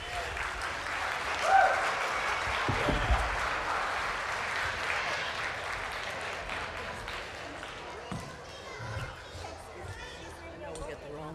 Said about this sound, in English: Without any further ado, Champ and Dixie are coming in. You can give them a round of applause.